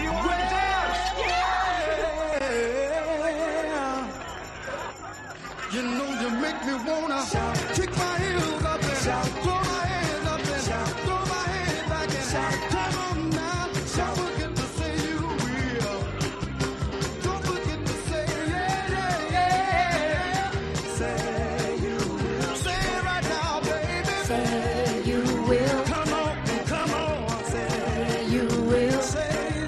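An upbeat soul song from the soundtrack of a 1978 American film by John Landis, with loud shouted vocals and whoops. A brief, thinner opening gives way to the full band and a driving, steady beat that stays loud throughout.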